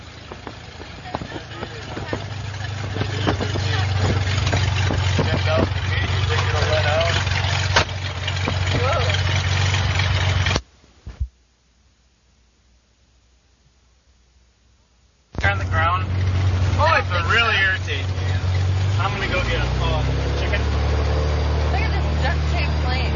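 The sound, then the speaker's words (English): The engine of an antique airplane built in 1909, preparing for takeoff, runs with a loud, steady low drone and a rattling mechanical roar. It drops out for a few seconds, returns, and shifts lower in pitch near the end. “They said this baby was built in 1909, this plane.”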